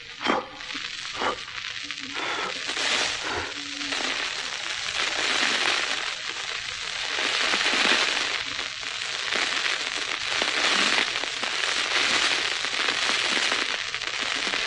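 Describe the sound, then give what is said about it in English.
A steady rush of breathy blowing on a fire that has almost gone out, to bring it back to life, with sharp crackles and pops of flaring embers scattered throughout, the hissing swelling and easing in long waves. “Almost gone out. I will blow it into life.”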